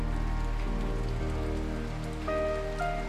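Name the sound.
light rain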